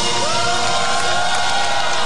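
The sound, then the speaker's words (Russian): A crowd of a couple dozen opposition party members and civic activists shouts and chants "Nika-Nika" outside the walls of Rustavi prison No. 12 in Georgia, cheering on jailed opposition leader Nika Melia. Loud overlapping voices rise in pitch over a dense wash of noise that fills the whole moment. “и скандированием «Ника-ника» пара десятков представителей оппозиционных партий и гражданских активистов у стен Руставской тюрьмы номер 12 старались докричаться и подбодрить лидера нацдвижения Нику Мелия.”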